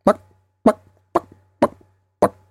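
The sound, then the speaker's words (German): A voice imitates a chicken clucking with five short, punchy clucks at a steady, slightly uneven rhythm, each one a sharp burst that quickly fades, with brief silence between them. “Erste Geräusch ging ungefähr, man kennt es ja vom Huhn. Ein Huhn macht halt so.”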